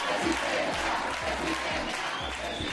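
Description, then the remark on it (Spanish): A crowd applauds steadily at the mention of Ayuso, a dense, even wash of many hands clapping with a faint murmur of voices mixed in, holding at a constant moderate loudness throughout. “Es un día muy triste porque cuando digo Ayuso, oigo aplausos.”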